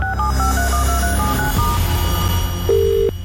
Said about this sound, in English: We are ringing. Please pick up the phone.